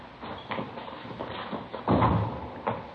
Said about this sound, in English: Here, I'll get the door. All right.